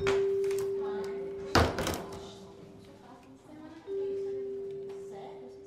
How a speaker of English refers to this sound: When the door opens, he walks in.